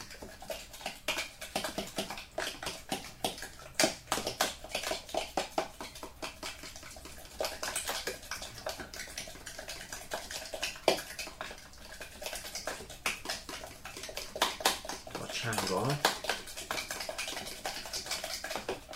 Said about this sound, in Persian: بادنجونامون رو اضافه میکنیم بهش. و کاملا همش میزنیم.